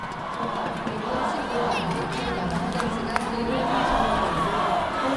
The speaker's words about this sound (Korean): 연일 우리는 하나다, 통일조국, 코리아 이겨라를 외치며 단일팀을 응원한 관중들은 단일팀의 첫 골에 기쁨을 감추지 못했습니다.